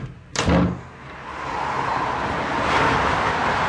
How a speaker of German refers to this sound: Und höre den Autos zu oder in Verkehrspausen den Vögeln.